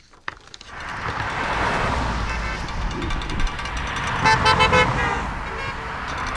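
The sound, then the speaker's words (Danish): Car horns honk repeatedly in short bursts as cars pass Trump supporters waving signs and flags on a busy country road east of Johnstown. The honking sounds over the steady rumble of passing traffic, with a cluster of toots growing louder near the end. “Og på en tæt trafikeret landevej øst for Johnstown dytter biler i hobetal, når de kører forbi Trump-tilhængere, der vifter med skilte og flag og trutter i deres horn.”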